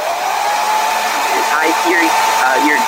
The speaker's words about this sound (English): Ma'am, I need to tell you, you can't dry your walls with a hairdryer. Hold on, I can't hear you over the hairdryer.